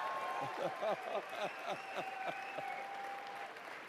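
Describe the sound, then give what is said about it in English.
A large stadium crowd erupts in a dense, steady roar of applause and cheering, with shrill whistles and high cries riding above the noise throughout. “You couldn't calm the crowd down.”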